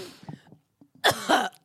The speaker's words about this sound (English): I'm recording. You can cough again.